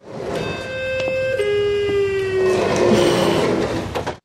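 The McCallum real estate office door chime in the show Rosehaven sounds a few long, sustained, mournful electronic notes that step downward in pitch, buzzy and harmonic-rich, over a steady wash of background noise, with no one speaking.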